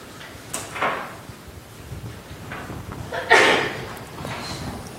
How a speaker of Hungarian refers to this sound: Egészségére.